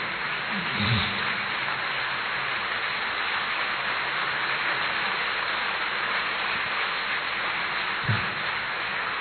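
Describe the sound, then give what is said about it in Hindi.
A standing audience breaks into sustained, dense applause for a Sagar Manthan presentation, the clapping a steady hiss-like wash that holds evenly throughout, with a couple of brief low thumps and no voices standing out. “इसके लिए बहुत बहुत बहुत जोर से सभी खड़े होकर के इसको अभिवादन करें, ताली बजाएं।”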